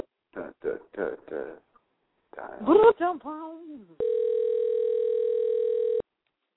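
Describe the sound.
Brief speech gives way to a steady, loud electronic phone ringing tone that holds for about two seconds on its own, the ringback of an outgoing call.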